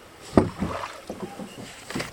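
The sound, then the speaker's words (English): Small-boat ambience on open water: a soft, steady wash of wind and water with a few knocks and splashes against the hull, fairly quiet, with no one speaking. “Here we are sitting on this little boat.”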